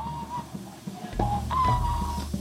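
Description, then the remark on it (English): A man whistles nervously as time passes, a thin, wavering tune in short uneven phrases, moderately loud, while a low rumbling hum swells up beneath it partway through. “Mr. … whistles nervously as time passes.”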